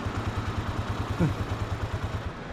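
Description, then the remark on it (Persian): A motorcycle engine idles steadily, its low, even putter repeating in a quick regular rhythm, with a brief rattle partway through and no voices. “ببینم پسر موتوره به پا یعنی فولدار شدی؟”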